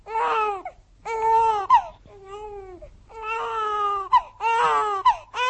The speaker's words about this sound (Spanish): Y cuando oyó el llanto de su hijo, que había nacido en su ausencia, comprendió que había prometido entregar al diablo a su vástago.